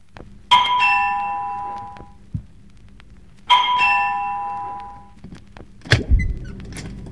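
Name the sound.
doorbell ringing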